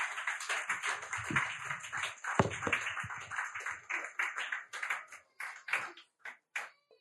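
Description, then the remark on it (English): Audience applause: many hands clapping in a dense, steady patter that thins out toward the end into a few scattered, isolated claps before fading. “Please, a round of applause once again”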